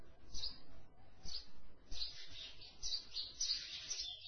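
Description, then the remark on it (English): Birds chirp and twitter in repeated high bursts, growing busier toward the end, over a faint low rumble of background noise, with no voices. “The birds are singing.”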